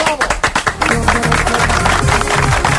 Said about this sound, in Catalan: Bravo! Bueno, això que tu aplaudeixes amb gran entusiasme és perquè no tens la percepció de la repetició.